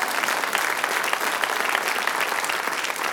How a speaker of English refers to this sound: Well, you need to clap.